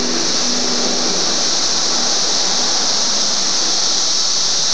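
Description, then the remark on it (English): A dense cicada chorus, including cicadas in farther areas, heard through an opened window, forms a steady, unbroken high buzz with a hollow overtone, over a soft wash of street noise. It stays loud and even throughout, with no voices. “I'm hearing that overtone, that weird hollow kind of sound that Catter said he thinks is all of the other cicadas in further areas.”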